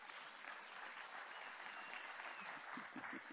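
Steady, dense applause from an audience, a continuous crackle of many hands clapping at an even level for a few seconds with no voices.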